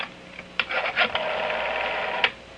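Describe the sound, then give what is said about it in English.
A telephone being dialed at a sheriff's office in Iroquois County to call New Delhi, India: a handful of short, uneven clicks over a steady mid-level hiss, fairly quiet, with no one speaking. “Get New Delhi, India on the phone, just like this.”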